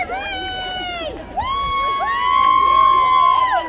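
A crowd, including parents, cheers loudly at a South Summit School District sports meet for special needs kids, many high young voices shouting and whooping together in long sustained calls. A brief dip comes about a second in, then a second, stronger swell of cheering follows.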